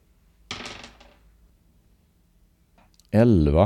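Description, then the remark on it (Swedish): A brief clatter of two dice tumbling across a tabletop, rattling for about half a second, then quiet before a loud voice starts speaking. “Synd att det var utslaget på två tärningar. Men jag slår om.”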